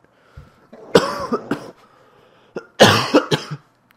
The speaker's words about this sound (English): Sorry about the coughing, guys. Just because my cough.